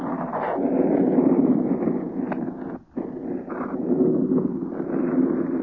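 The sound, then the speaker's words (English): Wind rushes steadily through the rigging of a ship's mast top in a dense, low roar with a hissing edge, dropping out briefly midway before surging back just as strong. “36, 38 planes against the wind that's rushing through the rigging of this mast top.”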